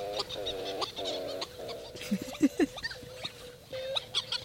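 Hawaiian petrels (ua'u) calling at night on Lanai in misty evening drizzle, over the aluhe ferns where they live: a run of nasal, honking moans repeated in quick bursts, joined by higher squeaks and chirps from other birds, with no voices.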